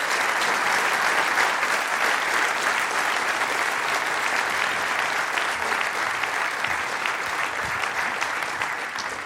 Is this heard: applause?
yes